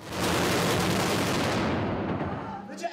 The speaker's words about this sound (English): Lights flash outside, and on the street, a burst of yellow illuminates the road as a loud explosion rips through the air.